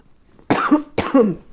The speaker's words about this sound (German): Entschuldigung, muss, glaube ich, gleich noch mal husten.